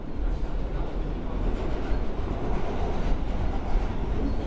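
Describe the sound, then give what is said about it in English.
A steady, loud low rumble of an L train subway running on its rails, with a dense rattling clatter that holds level throughout and no voices. “We're on the L train.”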